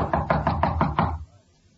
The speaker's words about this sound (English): Here we go. Knock again. Right.